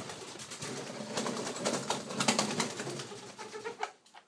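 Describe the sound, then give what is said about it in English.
Several small pet soft-billed birds chirp and call continuously indoors, a busy overlapping chatter of quick notes at moderate volume, with no one talking. “Anyways, as I was saying, these being soft-billed birds, they aren't as bitey as the, like the cockatiels.”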